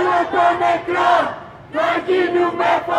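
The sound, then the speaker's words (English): A large crowd of protesters in Greece shouts and chants in loud, rhythmic bursts at a mass protest after a railway collision, voices rising together in repeated phrases, with a brief lull midway before the chanting swells again. “After the collision, mass protests erupted.”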